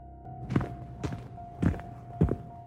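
Four heavy, muffled footsteps thud at a steady walking pace outside a door around 4 in the morning, each a short dull impact, over a constant low electrical hum with no talking.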